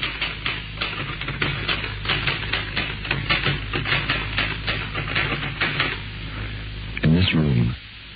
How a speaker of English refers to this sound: Typewriter keys is like knuckles on wood, and my perspiration falls down upon the keys that are being punched by my trembling fingers.